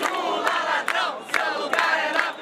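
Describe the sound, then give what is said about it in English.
A large crowd of Brazilians marching through an upper-class neighborhood in Rio de Janeiro chants "Lula, thief, your place is in jail" in a loud, dense roar of voices, with rhythmic shouted syllables pulsing steadily through the whole stretch. “A mass of Brazilians weave through an upper-class neighborhood in Rio de Janeiro chanting, Lula, thief, your place is in jail.”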